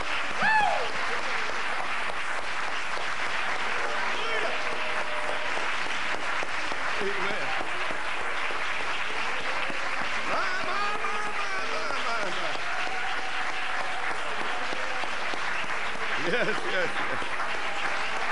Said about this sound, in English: Raise your hands again and praise him. Thank you, Lord. Praise God. My, my, my, my, my, my, my. Thank you, Lord. Hallelujah. Give him another clap offering of praise.